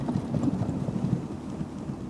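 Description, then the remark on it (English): A steady, dense rumble of rapid low knocks and rattles as a scooter's small wheels clatter over cobblestones in Paris, continuing without pause or speech for a couple of seconds. “And back to the cobblestones.”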